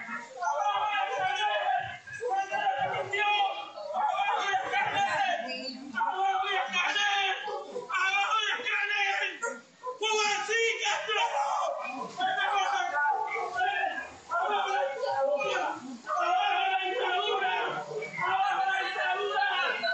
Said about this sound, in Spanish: vamos a colocar en este momento en el programa el audio donde se ve en el video claramente cómo te arrastran por las calles y cómo tú gritas.